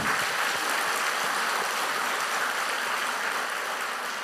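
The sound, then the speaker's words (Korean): A crowd claps together for God in a dense, steady wash of applause that holds at an even, fairly loud level for about four seconds, with no voices heard. “우리 박수 한번 칩시다, 하나님 앞에.”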